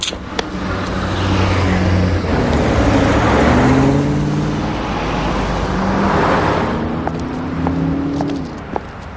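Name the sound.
car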